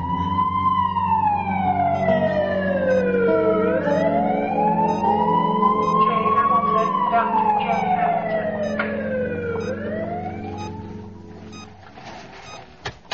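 An ambulance siren wails in long, slow rising and falling sweeps, loud over a steady low engine rumble, then fades slightly toward the end.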